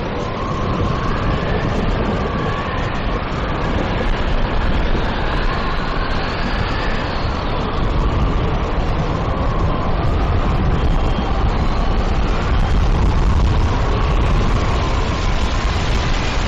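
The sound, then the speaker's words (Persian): A fierce dusty storm wind roars without pause outside a terrace door, thick with gritty rushing noise and thin whistling howls drifting above it, loud for the whole stretch, with no voices. “از بین گرد و غبار باد چشمشو به سختی باز میکنه.”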